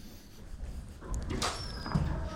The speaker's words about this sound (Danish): Så når man går hele vejen igennem, så åbner dørene ganske af sig selv. Hvorfor gør det egentlig det?